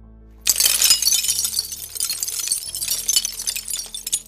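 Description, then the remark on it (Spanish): Glass shatters with a sudden loud crash, followed by several seconds of bright tinkling and clattering as shards scatter and fall across a hard floor, without any voices. “Solo se escuchaban los cristales cayendo al suelo.”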